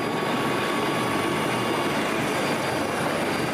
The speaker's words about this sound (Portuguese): A entrega é a etapa mais rápida de toda a operação. Em menos de 5 minutos, o helicóptero é esvaziado.